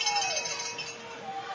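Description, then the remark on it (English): A dense, continuous clatter of many cowbells ringing at once, bright and metallic, blending into a steady crowd din with no pauses or change in loudness, from a packed house at a rainy night football game in Havelock. “And cowbells.”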